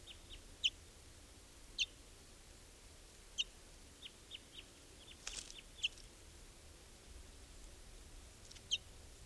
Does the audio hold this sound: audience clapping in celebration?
no